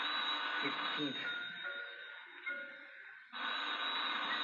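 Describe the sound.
A telephone rings with a loud, shrill, continuous bell tone that breaks off briefly and then starts again, with faint voices and movement underneath.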